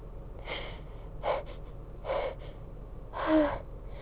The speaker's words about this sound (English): I wanted to see how long I could hold off the sneezing. And it's not easy.